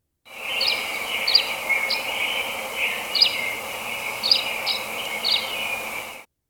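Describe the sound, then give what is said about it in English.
Sweet, liquid twittering from a tree swallow, a steady run of high chirps and gurgling notes with a few brighter accents, moderately loud, with no voices present. “So our last bird to watch this week is the tree swallow.”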